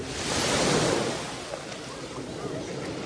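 Ocean waves wash onto a shore, a broad hissing surge that swells over the first second and then settles into a steady, softer rush of surf.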